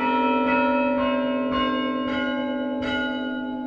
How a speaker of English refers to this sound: St. Mark's only plays the chime on special occasions because their chime player is also their organist, and he's busy with that most of the time.